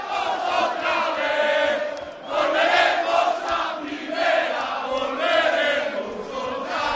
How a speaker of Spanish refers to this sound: Es el sonido en directo desde Pamplona. Es precioso este cántico. Y son los jugadores en un escenario cantándolo delante de la gente, supongo, también, ¿no? La afición y los jugadores en el kiosco, en un kiosco habitual.